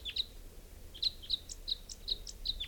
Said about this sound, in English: Recording type 5 bird coming in. Pointed at 395. Here's the wild bird.